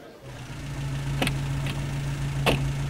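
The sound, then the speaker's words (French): A taxi's car engine idles with a steady low hum, broken by a couple of short clicks or knocks, with the passengers seated in the car. No talking. “Hello tout le monde, dit le chauffeur de taxi quand tout le monde est installé dans la voiture.”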